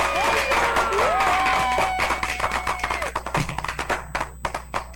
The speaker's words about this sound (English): Hold on, man. Let me give you a clap, dog.